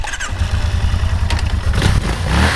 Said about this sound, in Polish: Dzieciaki jeździły różnymi motocyklami.